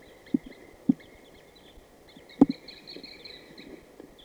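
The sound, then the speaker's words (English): High-pitched calls of at least four wild birds, two males and two females, in a tree repeat over a faint background, steady trills and chirps running throughout, broken by a few soft low thumps. “Start recording, there is another male there in that tree that the other male just flew to. So there are at least four birds here.”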